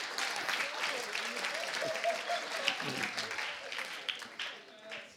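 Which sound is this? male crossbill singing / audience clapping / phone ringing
audience clapping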